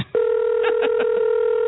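A steady phone tone hums as four quick dialing beeps tap out over it in an even rhythm, clear, with no one talking.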